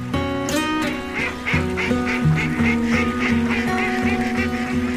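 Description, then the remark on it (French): A duck quacks repeatedly and loudly, a steady run of nasal, buzzy calls with a few higher honking notes mixed in, and no one speaking. “Oh, canard, qu'as-tu fait au Seigneur pour mériter un tel sort?”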